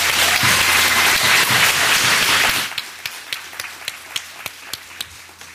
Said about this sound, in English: I would like us to give those people who serve one another, who serve us, a round of applause.